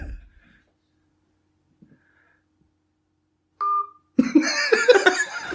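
A single short electronic telephone ring tone sounds after near silence as a phone call is being connected to the person dialled, then loud laughter and snorting break out right after it.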